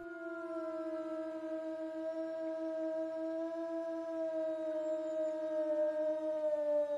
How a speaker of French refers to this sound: Oui, c'est un loup. On dit que le loup hurle.